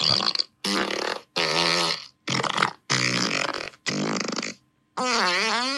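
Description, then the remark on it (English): A person blows a rapid series of about seven buzzy, wet raspberry noises, mouth imitations of farts, each roughly half a second long with short pauses, loud, the last one wobbling in pitch. “I like to vocalize my farts.”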